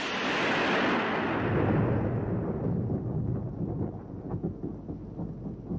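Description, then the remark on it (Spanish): A loud, rolling thunder rumble fills the space, starting broad and bright then settling into a deep, lingering low growl that slowly fades, with no voices. “Al darse cuenta de que había llegado tarde, se enfureció y desencadenó una tormenta.”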